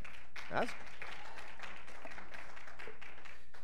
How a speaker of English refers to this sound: Now that makes it easy for a preacher to preach. I'll tell you that right there. I know you're not clapping for me, but God is good.